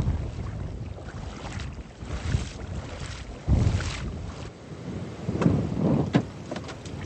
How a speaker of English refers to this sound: All right, the wind is picking up again, and so is the rain.